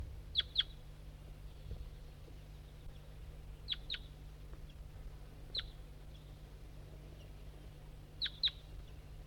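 A wild bird on a hillside gives sharp, high chirps, mostly in quick pairs, repeating every few seconds over a low, steady background hum.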